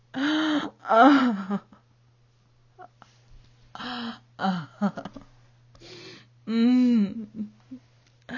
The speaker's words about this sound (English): I lay back, breathing heavily and quivering.